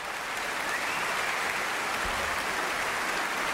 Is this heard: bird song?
no